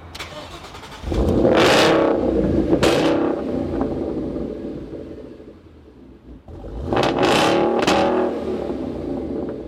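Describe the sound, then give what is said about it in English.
A Coyote V8 engine revs hard twice, each burst rising to a loud roar with a low rumble underneath, then dropping back to a steady idle between blips, with sharp crackling from the exhaust. “It's got that European kind of that little yeah. crackle, and it's also got that muscle car.”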